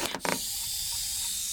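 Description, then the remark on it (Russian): Someone blows hard into a balloon to inflate it, a few quick breathy puffs giving way to a steady rushing hiss of air that fills the whole moment, with no talking. “Давай, давай, дуй сильнее.”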